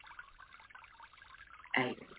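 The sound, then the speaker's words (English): Flowing water trickles and burbles steadily at a soft, even level, then surges into a brief, louder gush just before the end. No one speaks. “You hear the water?”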